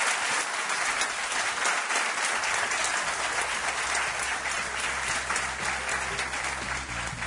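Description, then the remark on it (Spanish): An audience in the town of Belmez, Spain, breaks into sustained applause, a dense, steady wash of many hands clapping at once that holds at an even loudness for several seconds with no voices standing out. “Gracias, un aplauso para ellos, os pido.”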